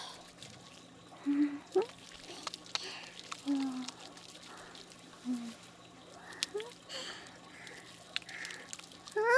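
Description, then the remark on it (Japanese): Soft, wet squelching and bubbly squishing of shampoo being lathered in hair during a hair wash, coming in short irregular bursts with faint crackling foam in between, fairly quiet overall. “泡立て、”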